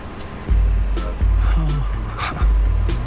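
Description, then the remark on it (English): A driverless taxi's engine rumbles, its low hum surging in repeated bursts as the vehicle moves, with faint muffled noises mixed in, in a scene from the HBO show Silicon Valley. “Here's a show, Silicon Valley, from HBO, where one of the show's characters gets into a driverless taxi for the first time.”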